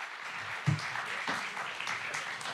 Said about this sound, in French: Et vous pouvez l'applaudir pour qu'il vienne sur scène.